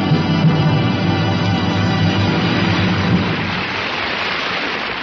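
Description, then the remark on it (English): An audience applauds a newly written song steadily, a dense, loud wash of many hands clapping that holds for several seconds and eases slightly toward the end, with no voices heard. “Meredith, that applause should tell you what a hit you've written.”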